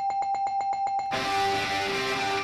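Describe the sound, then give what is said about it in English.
A bell clangs rapidly about eight times in a quick, even rhythm, bright, then a loud roaring crowd washes in and continues. “Okay, I'm giving that the bell.”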